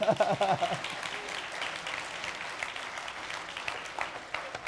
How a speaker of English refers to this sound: Oh yeah, go ahead and clap, you're allowed to.